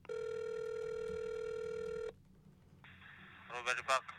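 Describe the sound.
A steady electronic telephone ring tone sounds for about two seconds as a call is placed to a gourmet market store, then cuts to faint line hiss before a voice briefly speaks through the phone line.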